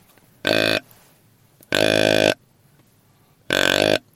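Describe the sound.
A handheld deer grunt call with its middle button pressed, imitating a young buck such as a spike or a four-pointer: three loud, buzzy, nasal grunts with gaps between them, the middle grunt longest.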